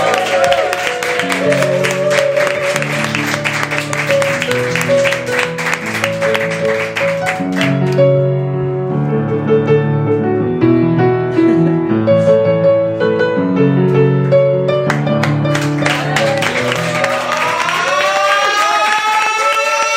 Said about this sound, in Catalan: Fort aplaudiment per ells i per la neu.